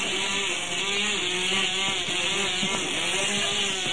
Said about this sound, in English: Now we have two outboard motors racing. Two motors. Here they come. Two.